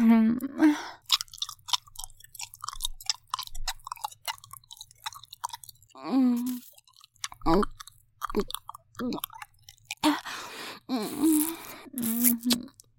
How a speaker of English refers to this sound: All the lovely slurps and wet sucks. Does it feel good as it sounds? better than it sounds. That's the power of a good mic.